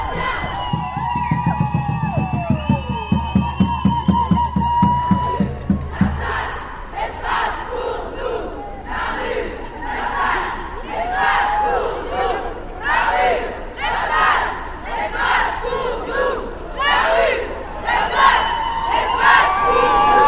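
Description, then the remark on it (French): A large crowd chants at a night march of women, gay and trans people against violence against women in Grenoble on 25 November, starting with a loud, rhythmic, pulsing beat, then breaking into many overlapping voices shouting and calling out in a dense, sustained roar. “s'est déroulée le 25 novembre à Grenoble une manifestation de nuit en mixité femmes, gwyn et trans.”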